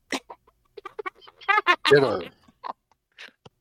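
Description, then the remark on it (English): A person imitates a squawking chicken with a quick run of short, harmonic squawks and clucks, loudest in the middle, with no other sounds around it. “Squawk, squawk, squawk, squawk.”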